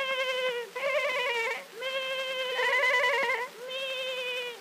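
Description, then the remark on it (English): A goat bleats several times in a row, loud, each call a wavering, quavering cry running straight into the next with only brief pauses between. “The goats join the chorus with a”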